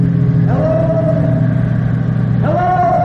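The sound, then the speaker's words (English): A car engine accelerates hard on a road in the Alleghenies, its loud, steady drone rising sharply in pitch twice as the revs climb and hold, with no voices over it. “Gas like a shot.”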